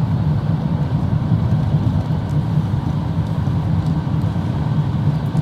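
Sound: road traffic heard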